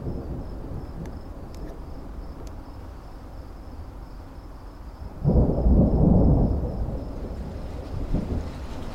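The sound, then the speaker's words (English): Steady heavy rain hisses throughout on a pitch-black Thursday night, and a deep roll of thunder swells up around the middle, rumbling loudly for a couple of seconds before fading back into the downpour. A faint insect chirp persists. “Do you hear that? It's raining. It's actually raining. Hard.”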